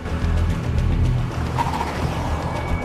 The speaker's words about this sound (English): Jack and Renee jump into a car and head off in pursuit.